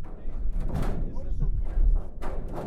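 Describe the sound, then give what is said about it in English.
Keys rattle in the lock of a rarely used door onto the roof of the Cape Air company headquarters overlooking Barnstable Airport, then the heavy door clunks and thuds open, with a couple of sharp metallic bursts over a low rumbling background. “director of sustainability at Cape Air, takes out keys to unlock a rarely used door that opens onto the roof of the company headquarters overlooking Barnstable Airport.”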